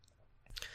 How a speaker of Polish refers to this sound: Więc teraz tak, żeby napisać wiadomość w Thunderbirdzie, no to klikamy sobie tutaj na write.